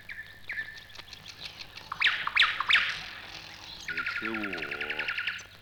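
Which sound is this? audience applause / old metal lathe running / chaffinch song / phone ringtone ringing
chaffinch song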